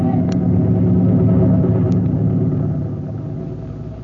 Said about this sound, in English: Hey, look, it is a plane. Yeah, but planes can't stand still in the air, can they? Yeah. Who ever heard of a plane that could... Hey, golly, that one can. Yeah. Hey, it's a helicopter. Fellas, they're looking for it.